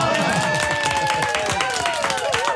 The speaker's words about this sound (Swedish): Det är onsdag morgon. Här är vi, hela gänget. Här är vi. Kan man få en liten applåd? Ja!